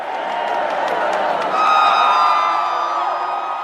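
A large crowd of Lula da Silva supporters in Brazil cheers loudly and continuously as the second-round presidential election result is announced, with high whistles and shrill whoops rising above the roar and swelling toward the middle before staying strong to the end.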